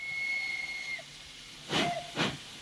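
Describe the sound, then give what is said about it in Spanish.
A steam train's whistle sounds as a steady high tone for about a second, then two loud bursts of hissing steam follow in quick succession, with no voices. “Empezamos por el tren.”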